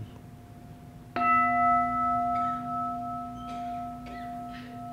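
A mindfulness bell is struck once, ringing out with a bright, layered tone that hums steadily and slowly fades over several seconds, with a faint earlier ring lingering before the strike.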